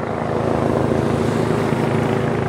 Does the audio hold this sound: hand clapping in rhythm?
no